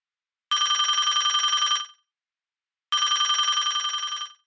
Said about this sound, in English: And all of a sudden, the phone rang.